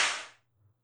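A single sharp whip crack rings out, a bright snapping strike that fades quickly into quiet with a faint low hum underneath.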